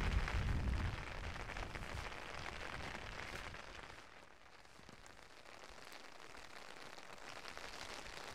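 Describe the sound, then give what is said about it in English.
Steady rain patters on an umbrella overhead on open moorland, a dense continuous crackle of drops with a heavier, rumbling gust at the start, then settling into an even, moderate hiss. “I imagine on an August day, which is maybe a little bit brighter than this, this landscape, instead of echoing with the sound of rain hitting my umbrella or the odd curlew or grouse call, echoes with the sound of gunshots.”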